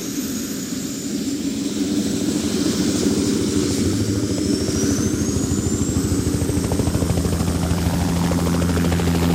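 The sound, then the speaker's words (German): A helicopter lifts off to fly to the municipal square, its rotor chop a steady rapid pulse under a loud engine whine that rises in pitch, continuous and dominant with no voices. “Können Sie den Heli über dem Gemeindehaus ruhig behalten?”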